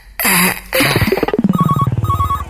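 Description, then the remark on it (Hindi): A telephone at the Lovely City Parlour shop rings with a fast pulsing trill and short repeated electronic tones, following a brief burst of harsh noise. It sounds fairly loud, with no talking. “अरे फोन जल्दी उठाओ, अब मेरे पास अरे वक्त बहुत कम है।”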